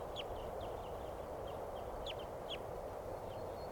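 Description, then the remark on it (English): A flock of crossbills chitter in scattered bursts of quick, high chirps as they go down for water at a corral in Barford Park, over a constant low rush of wind or outdoor noise. No one speaks. “Birds are going down for water now, right at the corral. Chittering”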